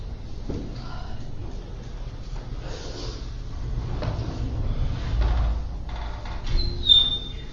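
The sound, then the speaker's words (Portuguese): A door being closed and locked: scattered clunks and rattling handling noises over a low background rumble, ending with a brief high metallic squeak. “Trancar a porta lá na outra cara aqui, tá?”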